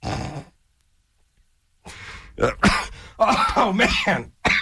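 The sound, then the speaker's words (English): A brief throaty rasp, a short pause, then a run of harsh, choking coughs and throat clearing in uneven bursts, fairly loud and with no speech over them. “Got all choked up on that.”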